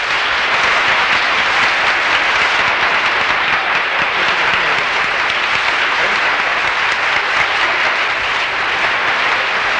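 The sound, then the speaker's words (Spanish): Sustained, loud applause from a large audience on the Cabalgata Fin de Semana show, a dense steady roar of clapping that holds evenly for about ten seconds with no voices standing out. “Ovación grande en cabalgata fin de semana”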